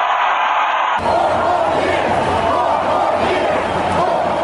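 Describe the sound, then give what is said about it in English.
A large rally crowd in Valdosta, Georgia, estimated at 10,000, roars and cheers on a Saturday as President Trump addresses them, in a loud, sustained wash of voices that swells suddenly after a brief opening and keeps going without pause. “Well, that was a crowd Saturday in Valdosta, Georgia, as President Trump was addressing them.”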